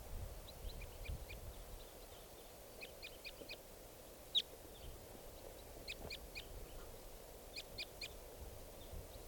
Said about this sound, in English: There's a type 2 bird here. Wild bird.